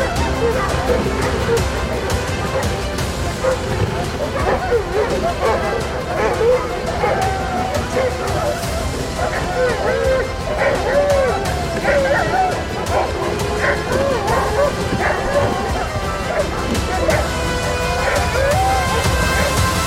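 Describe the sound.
A chorus of many sled dogs barking, yipping and whining together, a dense, continuous outdoor din with overlapping voices, steady throughout.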